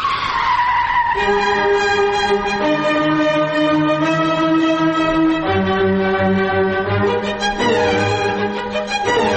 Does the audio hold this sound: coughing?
no